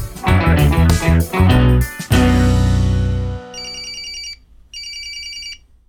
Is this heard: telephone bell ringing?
yes